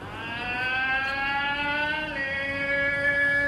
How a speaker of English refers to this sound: The faithful old tamale vendor who opens his lungs every morning as he pushes his bright yellow metal cart through the streets.